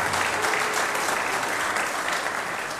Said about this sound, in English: Good morning, everyone. How about a round of applause for our worship band who gets us up and at 'em on Sunday morning?